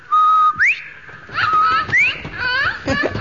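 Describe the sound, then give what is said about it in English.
A parrot whistles several clear notes: a steady tone, then quick rising swoops and chirpy warbles mixed with raspy, chattering squawks, fairly loud and continuous for about three seconds. “I say, that's a jolly-looking parrot. And he flew right to your shoulder.”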